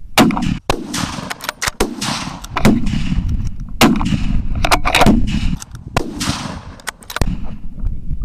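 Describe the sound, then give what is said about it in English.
A rapid series of loud rifle shots fired at wild pigs on the edge of a floodplain, around a dozen sharp cracks at irregular intervals, over a steady rumble of wind and outdoor noise, with no talking. “We've found some pigs. The wind shifted at the last minute, which is unfortunate, but managed to get a couple.”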